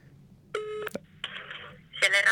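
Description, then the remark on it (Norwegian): An outgoing phone call from Norway to Rovaniemi, Finland, over the line: short electronic telephone tones in separate bursts, with a thin, slightly distorted receiver quality, followed by a brief voice-like sound as the line connects. “I hvert programmelse så inviterer jeg min gjest til å ta en telefon bort til landet vi snakker om, bare for å høre hvordan det står til.”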